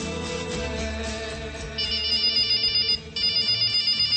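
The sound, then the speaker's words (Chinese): A mobile phone rings with a bright, repeating electronic melody, loud, the tune pulsing in steady bursts with a brief pause near the end. No one speaks. “正在这时，手机又响了。”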